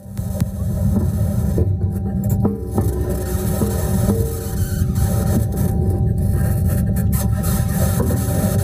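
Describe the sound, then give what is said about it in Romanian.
The wheels of NASA's Perseverance rover, recorded on Mars, squeak and grind steadily over the terrain: a continuous loud mechanical rattle with scraping, clanking overtones and occasional high squeals, no voices present. “Sunetul pe care l-a făcut roverul pe care l-a trimis NASA pe Marte. Ăsta este scârțitul roților.”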